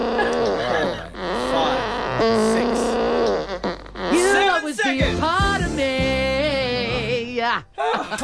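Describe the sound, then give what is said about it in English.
A voice makes a long run of loud fart noises, buzzing and sliding up and down in pitch with brief breaks, lasting around eight seconds. “I just wrote, I need a fart.”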